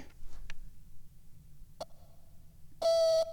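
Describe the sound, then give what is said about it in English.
Morse-code-style electronic beeps from a teapot, spelling T-E-A: a faint sustained tone after a sharp click, then a louder, buzzy beep near the end, with soft clicks earlier and no talking. “Is my teapot? No. E-A-N-T. That's not eat. It's sending Morse code.”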